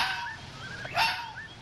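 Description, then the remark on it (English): A red fox at night in a meadow lets out a hoarse, high-pitched bark, with a few fainter, thinner yelps around it. The calls stand alone with no talking. “It's the red fox.”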